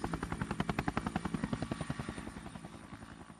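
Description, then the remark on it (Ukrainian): A helicopter's rotor chops in a rapid, steady thumping rhythm, loud at first, then gradually fading as the aircraft draws away. No voices are heard. “Коли їх назбирувалося стільки, що не залишалося місця ні для проходу, ні для сну, тато вантажив ці вироби на вертоліт і розвозив по крамницях у місті.”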